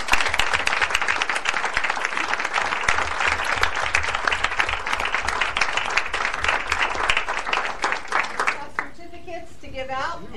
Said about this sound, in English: So if they would all come up, we would like to recognize them and clap for them and.